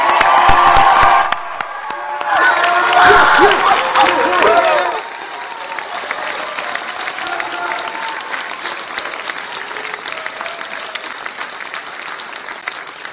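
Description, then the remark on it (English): An audience at a graduation ceremony claps and cheers loudly for the graduates, with a few whoops, for about five seconds. Then the applause settles into a steady, softer patter of clapping that continues to the end. “Let's give them one final big round of applause.”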